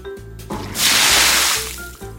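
A loud, hissing burst of splashing water lasts about a second, as if a bucket of water is thrown, rising and fading over a steady low hum of background sound, as people splash water at each other in a water fight during the Water-Splashing Festival of China's Dai ethnic minority.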